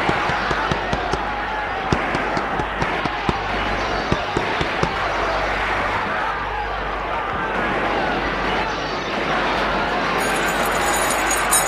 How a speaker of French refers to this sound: Apeuré, il monte. Arrivé à un étage, essoufflé, il tape aux portes.